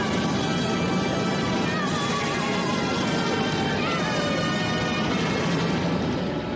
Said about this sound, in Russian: Несколько пастушков пытаются совладать с отарой овец, беспорядочно мечущейся между танками.